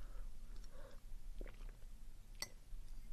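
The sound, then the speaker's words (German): Someone takes quiet sips of water, with three soft gulping swallows and a brief sharp click in an otherwise hushed moment with no talking. “Ich nehme mal kurz einen Schluck Wasser, Moment.”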